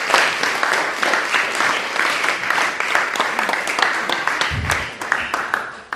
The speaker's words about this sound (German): Klatschen.